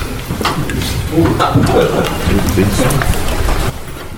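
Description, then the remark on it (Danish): Steady rain pours down for a few seconds, a dense, continuous hiss of drops pattering on a surface, fairly loud, with scattered sharper drips standing out. “Har jeg tastet regnet?”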